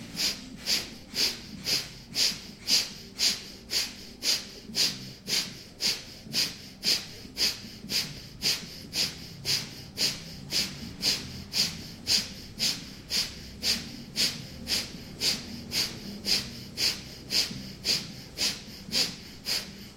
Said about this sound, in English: Taking a full breath in and emptying out completely. Breathing in and filling up halfway and begin.